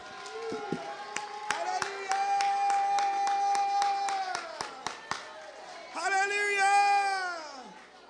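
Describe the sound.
Scattered hand claps ring out from a church audience during a morning service while sustained, rising voices shout and call out over them, building to a loud, excited swell near the end.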